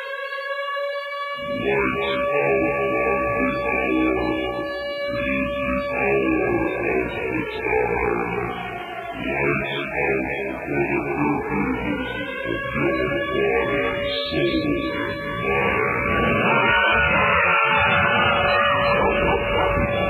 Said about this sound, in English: Every show of his starts with air raid sirens and dogs barking and terrifying soundscape. Okay. Woo! That sort of thing. It's very hard to listen to.